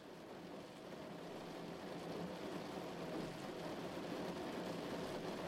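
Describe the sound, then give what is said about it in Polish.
Light rain patters steadily on the sheet-metal roof of a shack at night, a soft continuous drumming of many small drops with no pauses and no voices. “Wtem usłyszałem nieśmiałe dudnienie o blachę.”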